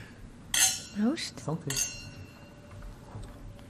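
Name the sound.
wine glasses clinking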